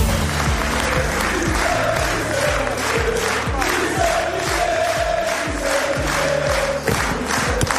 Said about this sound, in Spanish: Estos son los gritos a Luis Enrique ayer en París, en el Palacio del Eliseo, donde el Paris Saint-Germain, que ganó el sábado por 5-0 la final de la Champions al Inter de Milán, fue recibido por el presidente de la República, Emmanuel Macron.